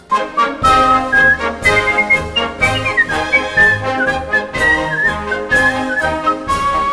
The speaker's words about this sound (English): sometimes a whistling act seems to be just the right thing.